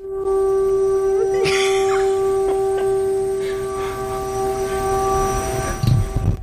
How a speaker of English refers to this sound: So that noise is a siren. Sounds like an air raid siren.